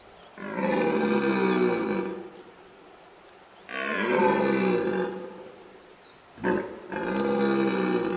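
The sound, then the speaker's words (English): A red deer stag, Britain's largest land mammal, gives its mating roar from a reedbed: three long, deep bellowing calls with a rough, groaning texture, each lasting about two seconds with short pauses between. The calls are loud, come from not far away, and no one speaks. “It is the mating cry of Britain's largest land mammal, a red deer stag.”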